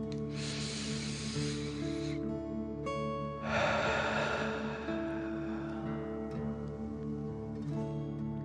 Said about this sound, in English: Again, breathe in through your nose and out through your mouth, pretending you are breathing fire. Deep breath in and out.